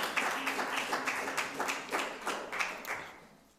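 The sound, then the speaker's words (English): A small group at a church gathering honouring a father claps together in an uneven patter of hand claps, fading slightly toward the end with no talking over it. “You could give a clap if you wanted to.”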